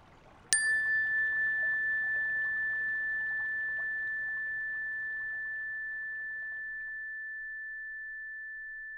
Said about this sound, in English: I will allow a moment for you to transition and slowly open your eyes, and then I will ring a chime to signal an end to this practice.